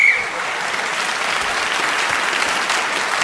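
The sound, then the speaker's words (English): A short, sharp whistle blast at the very start, blown to end a round of a game, immediately swallowed by steady applause from an audience that carries on loudly to the end. “So at the end of that round, Tony Hawksby gains the whistle when gained that extra point.”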